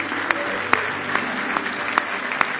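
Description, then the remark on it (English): An audience claps hands in praise of the Lord at a morning church service, a dense steady wash of applause with louder sharp claps standing out at a regular rhythm, roughly two per second. “Give the Lord a big hand clap of praise this morning.”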